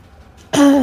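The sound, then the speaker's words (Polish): After a moment of near silence, a single loud grunt bursts out, a strained throaty vocal effort that holds briefly before trailing off, as a fighter lifts an axe to strike again. “Słychać, jak Harsid coś chrząka, dyszy, ale podnosi topór i próbuje uderzyć jeszcze raz.”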